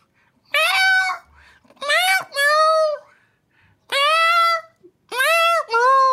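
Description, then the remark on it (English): A human voice imitates a cat, singing the carol Silent Night (Stille Nacht) entirely in meows: five long, wavering, high-pitched meow notes with gaps between them, each rising and falling like a sung tune. “Oh, meow, it's just warming the cockles. Meow, meow, meow, meow, meow, meow.”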